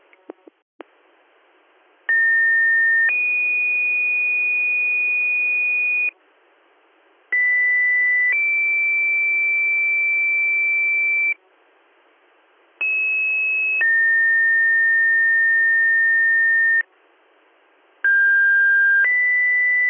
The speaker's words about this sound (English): Stand by for your weekly pager test.